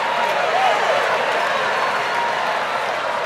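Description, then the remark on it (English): A church audience on its feet during a sermon shouts and applauds together, a dense, steady wash of clapping and cheering voices that stays loud and even throughout, with a few faint whistle-like tones rising above the crowd. “I hope you wasn't shouting because you thought I was through.”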